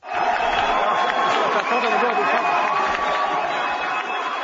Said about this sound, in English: The judges' protest might have been silent, but the crowd of 200 other demonstrators erupted into cheers and wild applause when the judges arrived.